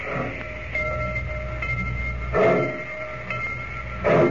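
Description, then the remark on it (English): A train idles at a station platform in Rocky Point with a steady low rumble and faint tonal hum, broken by two short, louder bursts of noise. No one speaks. “I just don't like dirty trains.”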